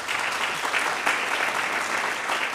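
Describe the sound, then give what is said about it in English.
Steady audience applause at an Intelligence Squared debate, welcoming Stuart Baker as he is introduced to argue against the motion: a dense, even wash of many hands clapping at a constant loud level, with no voices standing out above it. “That's an applause line.”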